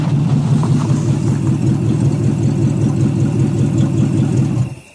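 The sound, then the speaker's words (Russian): A car engine rumbles loudly and steadily as the car approaches, a deep, even drone with no voices, then cuts off abruptly just before the end. “Послышался шум приближающейся машины.”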